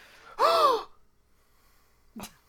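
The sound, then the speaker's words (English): A person lets out a loud, voiced gasp of surprise with a rising then falling pitch, followed after a pause by a short, sharp intake of breath. No one speaks. “You hear a gasp from inside. Gasp of surprise, gasp of fear, pain.”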